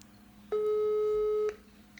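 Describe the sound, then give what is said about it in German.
A single steady telephone tone sounds for about a second as a call is placed again over a mobile phone network, clear, then cuts off, leaving faint line hiss and a low hum behind it. No one speaks. “Ich leg mal auf und dann kannst du gleich wieder anrufen.”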